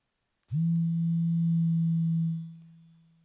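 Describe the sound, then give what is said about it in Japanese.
A click, then a steady, low tone from a toy telephone hums continuously for about two seconds before tapering off, with no voices. “まず今日使うのは、この、電話でーす。”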